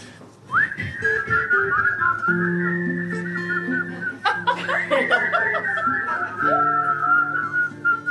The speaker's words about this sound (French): Et là, je vais vous redemander de siffler encore.